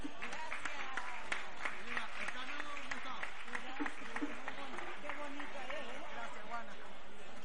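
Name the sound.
audience applause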